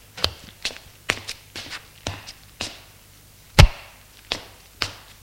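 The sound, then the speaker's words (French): A wicker tray holding a carafe of water, a glass, and a plate with a piece of cheese and a slice of bread is set down on a chair with one solid clunk, surrounded by a string of lighter knocks and shuffling steps; no one speaks. “Elle apporte sur un plateau d'osier une carafe d'eau, un verre, une assiette avec une part de fromage et une tranche de pain.”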